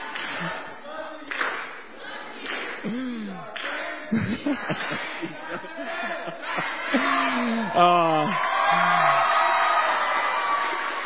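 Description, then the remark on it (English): A standing crowd shouts a cheer together, led by the green team to celebrate and show unity, in loud, rhythmic bursts of voices, rising into sustained whooping and yelling toward the end, with some clapping mixed in. “Green, come up here and lead us in a cheer. We're all going to do it together.”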